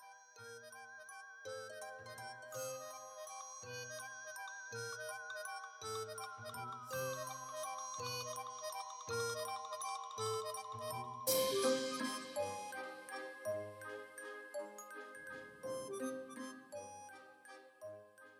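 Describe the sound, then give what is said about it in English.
Bright bell tones ring out in a steady, melodic pattern over soft low notes, played from a speaker hidden in the hedges along with a ghostly theremin and a softly weeping violin, swelling louder and fuller partway through before settling again; no voices. “And there must have been a speaker hidden in the hedges, Kay thought, as she could hear bells, the ghostly sound of a theremin, the soft weep of a violin.”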